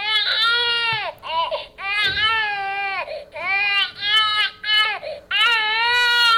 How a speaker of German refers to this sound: Ja, das waren noch einige Sekunden, in denen ein Baby schreit.